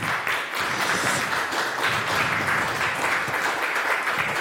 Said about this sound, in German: Ja, danke schön. Einmal einen kräftigen Applaus, danke schön.